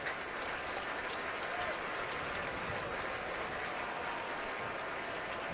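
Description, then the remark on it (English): A large baseball stadium crowd roars and cheers steadily during an 11-1 game, with a full 3-2 count on batter Jorge Mateo: a loud, dense wash of voices and clapping that holds at full volume throughout with no break. “Very loud crowd, especially for an 11-1 ball game.”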